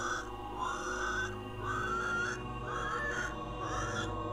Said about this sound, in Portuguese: Enquanto isso acontecia, ela ouvia barulhos altos de porcos, que é um sinal grave de manifestação demoníaca.